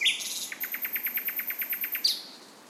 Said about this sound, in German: Der twittert. Ich kann nicht glauben, dass ich hier mit einem Aufnahmegerät im nächtlichen Berlin stehe und das Zwitschern eines Vogels aufnehme.